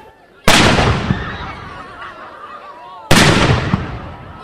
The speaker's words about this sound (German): Ja, echter Kanonentonner wie im Mittelalter. Am letzten Mittwoch zu Murten, am 535. Jahrestag der Murtenschlacht.